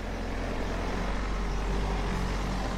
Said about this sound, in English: She gets in the car. The car drives away.